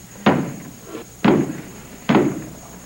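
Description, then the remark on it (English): Three heavy, booming knocks on a large wooden church door, spaced roughly a second apart, each thud trailing off with a short hollow resonance. No voices are heard. “Nobody knocks on a church door.”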